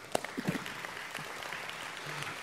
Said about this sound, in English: Don't clap for me, but clap for that idea.